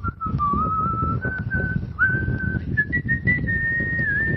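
An AI-generated sound, made from a text prompt asking for whistling and blowing wind: a steady, synthetic-sounding whistle holds a wavering tone that steps slightly higher as it goes, over a constant rushing wind that fills the low end throughout.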